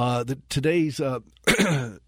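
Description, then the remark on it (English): Someone clears their throat and coughs, several short raspy bursts with a brief pause in between and a sharper cough near the end. “And I'm sorry if I don't get the cough button in time, forgive me on that.”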